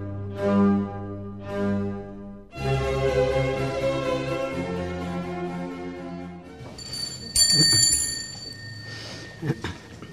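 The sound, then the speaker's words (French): A small hand bell rings near the end, a few bright, clear strikes with shimmering overtones that linger briefly, following a stretch of voices and sustained tones. “Et voilà, cette petite cloche a sonné donc pour la dernière fois, pour la dernière fois.”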